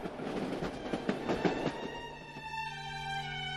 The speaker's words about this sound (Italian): In seguito, recuperati i bagagli e dopo un breve giro per New York, i tre si sistemarono in un vagone letto, su un treno che li avrebbe portati fino a Kingston, in Canada.